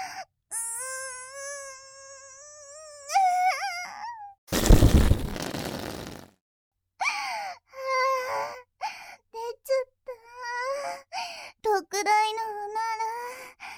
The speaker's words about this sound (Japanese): 準備はいいですか？私ももう限界です。特大のおなら、出ちゃいそう。いきますよ。